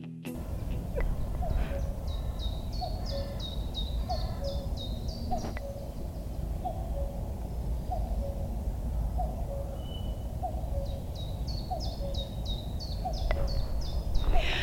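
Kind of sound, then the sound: bird, cuckoo calling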